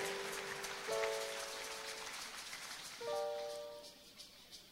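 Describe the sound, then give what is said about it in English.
A church audience claps for Jesus in a dense, steady patter, while two sustained keyboard chords ring out over the applause, one after another. “Clap for Jesus and be seated.”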